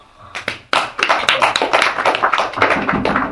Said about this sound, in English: Some clap their hands. Demonstrations.